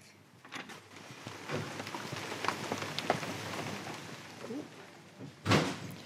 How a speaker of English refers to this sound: Do we have to run through the rain to get there? Yes, there are some bits through the rain. Okay. I will protect my microphone with my scarf.